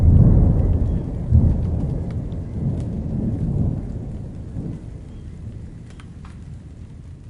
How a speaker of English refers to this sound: They are commonly known as midsummer daisies and also thunder daisies, relating to the storms brought in on sultry weather at this time of year.